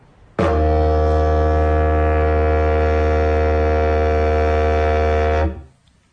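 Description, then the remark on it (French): A wooden wind instrument sounds its basic note, one steady, deep buzzing drone made by vibrating the lips with the mouth placed in it, rich in overtones. It starts abruptly, holds loud and unchanging for about five seconds, then stops. “La note de base, c'est simplement en faisant vibrer les lèvres.”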